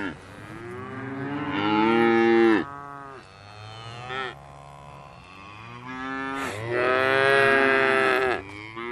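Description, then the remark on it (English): A herd of Dexter cattle moo loudly, with two long, strong bellows and a few shorter, weaker calls overlapping between them. No one speaks. “In 2 weeks' time, a herd of Dexter cattle will be moved onto the hill and will stay there till March, come rain, hail or snow.”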